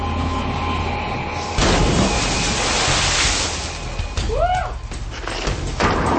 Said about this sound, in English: I'm in Iceland, tackling the dangers you'd come across if you got stranded here. But a deep glacial river is blocking my route. My only option is to jump.